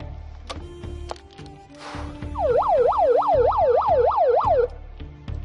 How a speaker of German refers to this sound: Tröte bitte.